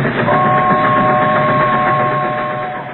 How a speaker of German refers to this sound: Ich habe kein Wort verstanden. Hier muss gerade irgendwo ein Zug vorbeigefahren sein.